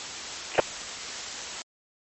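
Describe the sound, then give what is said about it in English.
A steady hiss of radio static from a radio caller trying to get through runs for about a second and a half, with a brief sharp pop near the start, then cuts off abruptly into silence. “trying to get through.”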